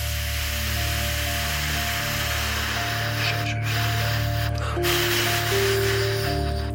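A steady, breathy rush of air blown into a breathalyzer alcohol test for about six seconds, over a constant electronic hum with tones that step up in pitch partway through. No one speaks.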